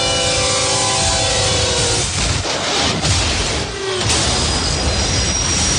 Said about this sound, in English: And on the tracks, we have Bull, a million-pound freight train that takes a mile to stop.